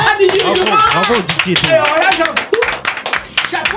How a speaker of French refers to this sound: Franchement, ça s'applaudit.